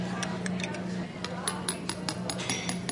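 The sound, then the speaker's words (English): A spoon stirs Alka-Seltzer into a cup of water, tapping and clinking repeatedly against the cup in an uneven rhythm, with a steady low hum and a soft fizzing hiss of bubbles beneath the sharp bright ticks. “Now I'm going to put in a spoon of Alka-Seltzer now and stir it up”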